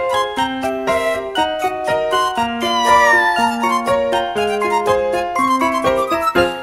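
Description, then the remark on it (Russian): Two small kittens, cold outdoors in a yard on a winter night in January, meowing in a series of short, high cries, mixed with a steady run of tinkling, musical notes throughout. “Один было ночью зимой в январе, два маленьких котенка озябли на дворе.”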